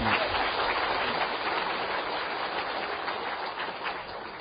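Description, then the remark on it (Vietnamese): A group claps steadily for several seconds, a dense, even patter of many hands at a constant loudness, with no one speaking. “Giỏi, cho chàng vỗ tay.”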